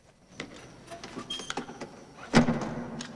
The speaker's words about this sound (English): She climbs out of the cab, then closes the door.